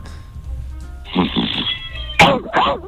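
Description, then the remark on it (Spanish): A person imitates a dog barking, a low growly rumble followed by two short, sharp, loud barks in quick succession. “Te puedo preguntar, para entender, ¿cómo es un ladrido tuyo? ¿Cómo es el intercambio de ladrido?”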